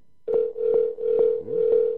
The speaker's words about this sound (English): Let's try this one. No guarantees this works either. It probably will not work. Dialing out.